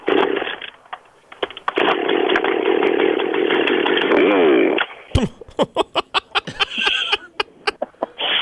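chainsaw running

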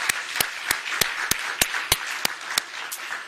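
round of applause

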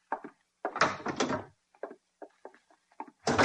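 door being opened

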